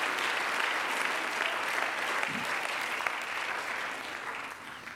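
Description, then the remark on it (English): An audience claps their hands unto God in a sustained, dense burst of applause lasting several seconds, with no voices standing out. “Let's clap our hands unto God and bless his name.”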